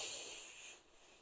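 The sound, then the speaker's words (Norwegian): A single soft, airy inhale through the nose during a relaxation breathing exercise, a steady breathy hiss lasting under a second before tapering off into quiet. No one speaks. “Og så gjør vi det samme igjen. Vi puster godt inn.”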